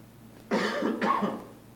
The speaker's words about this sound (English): Wow. Just when it was getting good, I started coughing.